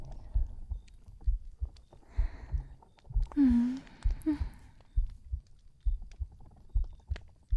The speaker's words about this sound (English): Can you hear my heartbeat?